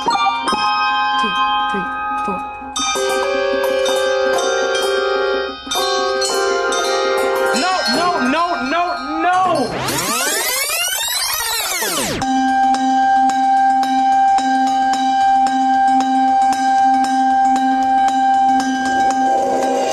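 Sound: jingling bells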